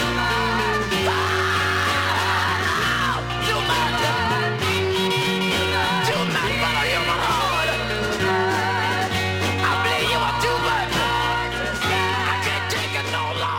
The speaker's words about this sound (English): So when I say screaming deep soul, that's what I'm talking about. That kind of sound.